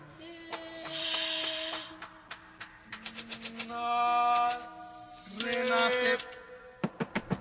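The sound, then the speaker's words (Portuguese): Sharp typewriter clacks strike in quick bursts and irregular runs over sustained tonal chords in the musical work Nasce e Morre, the clicks bright and percussive against the held notes. “Na obra são usados gritos, sussurros, voz cantada, batida de pés, palmas, sons de maracas, bongos e máquinas de escrever.”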